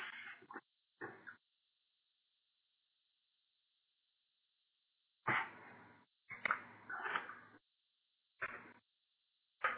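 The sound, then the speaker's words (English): A dog barks in short, irregular bursts: a couple of yelps, a long quiet pause, then a cluster of several more barks. The sound is somewhat muffled, with no talking. “That wasn't my dog.”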